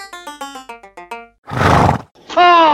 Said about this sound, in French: Oh, un cheval.